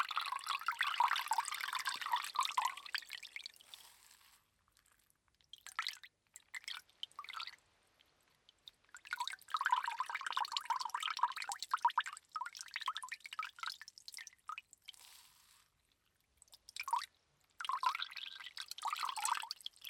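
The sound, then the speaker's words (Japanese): Water dripping and trickling in uneven bursts, splashy and bright, with brief quiet pauses between spells. No voices. “この水の音を収録しているちょっと前にスプレー、香水の音とかの後の間が”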